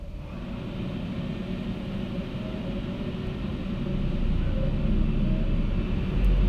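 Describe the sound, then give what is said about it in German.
Strong Föhn wind roars steadily with a deep, buffeting rumble and broad hiss, growing a little louder and fuller in the last couple of seconds. No voices are present. “Noch einmal das Element Wind.”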